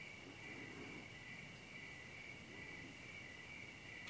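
A steady, continuous trill of crickets fills the background, high-pitched and unbroken, with faint chirps of other insects or birds scattered over it in an otherwise quiet outdoor setting.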